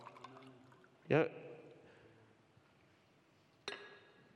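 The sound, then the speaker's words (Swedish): Water splashes briefly into a glass as a thirsty speaker pours himself a drink, a short pour, followed a few seconds later by a single bright glass clink, with soft voices faintly at the start. “Nu blir jag törstig när jag pratar om det här till och med. Får jag ta lite vatten här?”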